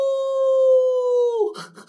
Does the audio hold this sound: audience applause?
no